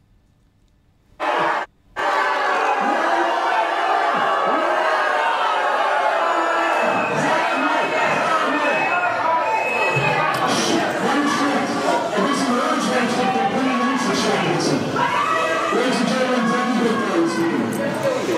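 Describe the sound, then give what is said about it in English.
A large crowd boos Boris Johnson loudly and continuously after a meeting, a dense roar of many voices with scattered shouts and whoops, starting abruptly after a brief quiet moment and holding steady throughout. “But first of all, it would be remiss for us at Navarra Media to turn up any opportunity to show Johnson in front of a booing crowd.”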